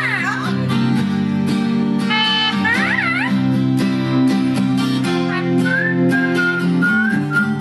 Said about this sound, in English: go down the rabbit hole with a man and his parrot performing …